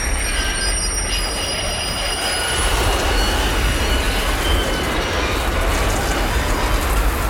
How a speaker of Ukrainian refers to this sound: Приблизно о 17-й годині повз село проходив товарний потяг у складі 58 вагонів. Він прямував із Казахстану в Польщу.